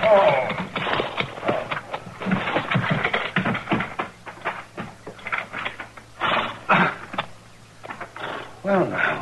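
Horse hooves clip-clop in a steady, uneven rhythm of sharp knocks as a peddler's horse-drawn wagon pulls into a yard, over a low continuous rumble that cuts out near the end.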